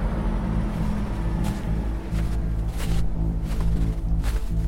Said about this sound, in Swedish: Ett dunlätt dis ligger över Hallonbergen, klätt i snö. Klockan 8:08 på morgonen. Bussar med folk på väg till arbete och skola pustar i centrum.